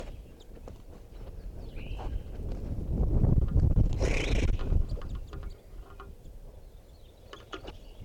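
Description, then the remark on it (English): Crossbills calling in a flock of about 10 in a small tree in the middle of a park, coming down to drink water; scattered short chip notes rising above a steady rumble of wind noise, with a louder burst of calls partway through. No one speaks. “I'm right underneath the tree that a bunch of crossbills are in, and they're coming down for water.”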